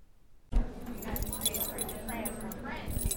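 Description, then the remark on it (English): A bunch of keys jangles, metallic clinks and rattles starting abruptly and continuing steadily for a few seconds over a low background hum. “DHS staff have trouble keeping track of their keys, but for some, the stakes are higher than others.”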